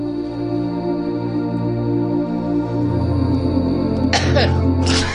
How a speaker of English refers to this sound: Sorry. Someone had to give a revolting dry cough, which, by the way, is the first sign of... coronavirus.